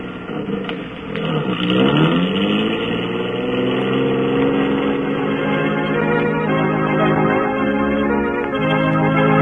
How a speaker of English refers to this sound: There's the police station in the middle of the block, Lothar. Those two green lights with the cars just pulling away.